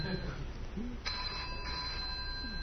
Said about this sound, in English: Okay, so somebody's cell phone is ringing.